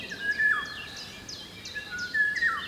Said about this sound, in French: Avant d'entrer dans la grotte du Mas d'Asile, un oiseau chantonnait une belle mélodie cristalline.